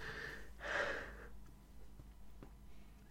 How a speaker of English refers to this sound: Stop sniffing in front of the mic